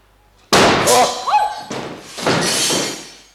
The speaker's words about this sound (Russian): Со зловещим шелестом картина срывается с крюка.